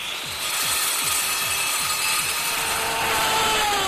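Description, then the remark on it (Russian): Saws cutting into a man's body as he is pushed along a workbench, with a steady, rapid back-and-forth rasp, each stroke landing with a dull, muffled thud under a constant bright grinding hiss. No voices. “Пилы с глухим звуком врезаются в тело Рогова.”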